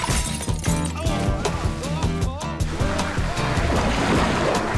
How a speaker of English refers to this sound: Man Bear Pig lifts the commissioner, slams him on the ground, then throws him through the window.